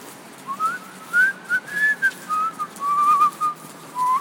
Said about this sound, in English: Bit of an echo. Like that.